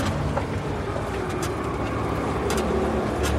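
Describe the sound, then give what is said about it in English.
A steady, loud rumble of a truck driving on a road, with deep engine drone and constant road noise throughout and a few brief higher rattles, and no voices. “Stop the truck!”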